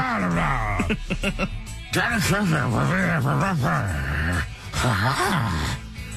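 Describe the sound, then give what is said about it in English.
A person imitates a dog with a sock in its mouth: muffled, whining and groaning vocal sounds that swoop up and down in pitch, loud and nearly continuous, with a few short breaks. “You have to sound like a dog with a sock in your mouth.”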